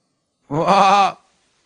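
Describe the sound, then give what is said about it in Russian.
A single voiced croak, a person imitating a frog croaking in spring: one loud, buzzy, wavering call lasting just over half a second, then silence. “Лягушка. Квакает весной.”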